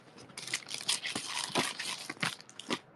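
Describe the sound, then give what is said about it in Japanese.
Busy crinkling and rustling of paper with short tape-like rips and snips as a package is wrapped, a message card attached and secured with masking tape for sending; continuous handling noises in irregular bursts, no voices. “メッセージカードをつけて、マスキングテープで留めて、貼り付けして、そして送ると。”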